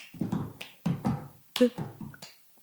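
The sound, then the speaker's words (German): Rhythmic hand clapping with a cup in a cup-song pattern: several sharp, bright claps in an uneven beat, with a voice murmuring alongside. “Ja, das ist irgendwie, da klatscht halt so.”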